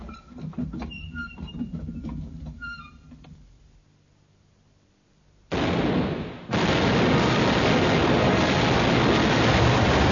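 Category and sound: sound effect, ship cannon fire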